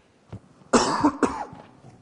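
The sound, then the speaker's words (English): Two sharp, harsh coughs, one right after the other, preceded by a faint throaty catch. No one speaks. “I'll just get a drink, or else that coughing will start.”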